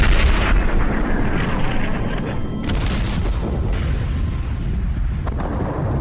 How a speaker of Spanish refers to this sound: Los cañonazos hacían que su pequeño cuerpo se estremeciera.